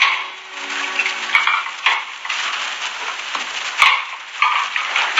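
Dishes being washed: a steady wash of running, splashing water with scattered clinks and clatters of plates and utensils, and no voices.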